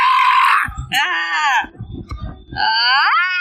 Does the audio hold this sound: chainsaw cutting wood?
no